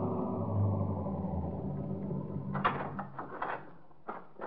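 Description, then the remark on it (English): A police car rolls up in front of a lodge, Sportsman's Retreat in the Catskills, and idles with a steady low engine rumble, then a few sharp clunks and rattles sound near the end. No one speaks. “And 20 minutes later, we were pulling up in front of the lodge.”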